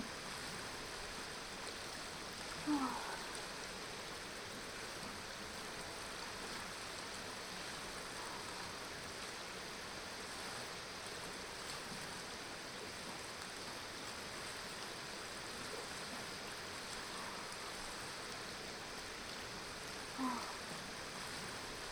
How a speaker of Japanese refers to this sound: 川に来るの久しぶりだったの？もうちょっとゆっくり川の音を聞いていたいん？オッケーな。じっと耳を澄ませて聞いてみる。